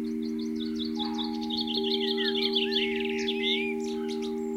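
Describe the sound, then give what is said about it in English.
Small birds feeding on food put out on a bird table, recorded by a small microphone placed on top of the table, twitter and chirp in quick, high, overlapping bursts, growing busier midway, over a constant low electrical hum and a faint steady tone. “So I ran outside, frightened them off, put some more food down, but put my little microphone on top of the bird table, and then ran back indoors, set it recording.”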